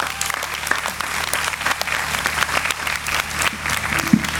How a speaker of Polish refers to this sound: Gromkie brawa!